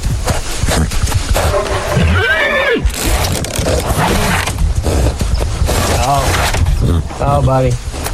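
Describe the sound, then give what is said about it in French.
A bay stallion in an enclosure with wooden fences neighs several times in loud whinnies with wavering, descending pitch, set against a busy, noisy background with some voices mixed in. “Comme de nombreuses séquences du film, celle-ci s'ouvre sur les hennissements d'un cheval.”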